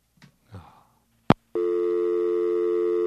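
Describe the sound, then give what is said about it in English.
A couple of faint rustling noises and a sharp click give way to a loud, steady telephone line tone that drones on unbroken to the end after the call is hung up. “Aw, I thought he was going to pick back up.”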